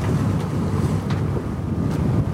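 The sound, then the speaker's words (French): Steady wind rushes across the microphone aboard a sailboat sailing under sail at 8 knots with engines off along the coast of Mauritania, with a low continuous rumble of water and a few brief gusts or splashes breaking through. “C'était possible de le faire parce qu'on a éteint les moteurs et après 4 jours de navigation avec le bruit incessant du moteur, on est en train de naviguer avec les voiles à 8 nœuds le long de la côte de la Mauritanie.”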